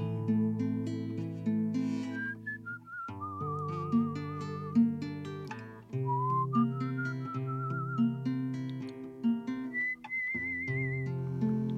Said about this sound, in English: Those old Italian men were great whistlers too. He taught me how to whistle, Grandpa. Oh, I love that kind of whistling.